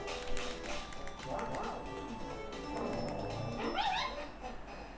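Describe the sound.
A dog barks and yips in a couple of short bursts, one early and one near the end, over a dense, noisy background with faint voices underneath.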